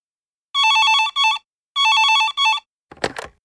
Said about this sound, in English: Then the phone rings again.